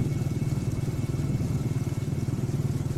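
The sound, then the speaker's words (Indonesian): A motorcycle engine chugs steadily at low revs as the motorcycle slows and labours up the Tanjakan Emen incline, a dense rhythmic throb, fairly loud, without any rise in pitch. “Motor mulai melambat dan terasa menjadi berat.”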